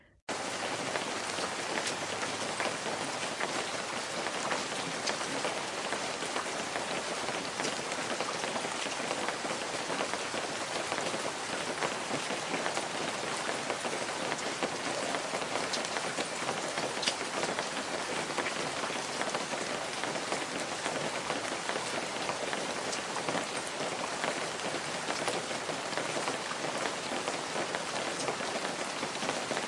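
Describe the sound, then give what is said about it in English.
Heavy rain pours down in a sudden downpour, a dense, continuous hiss of drops drumming on a surface, loud throughout with no pauses and no voices. “and even outpaced a mischievous weather machine that threatened the annual town picnic with a sudden downpour.”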